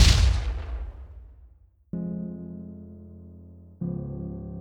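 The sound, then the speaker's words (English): A single heavy, muffled concussive boom behind a steel-lined door hits at the start, rocking the door, and rumbles away over a couple of seconds, followed by two abrupt bursts of low, steady metallic droning. No one speaks. “They were followed by a concussive boom that rocked the door.”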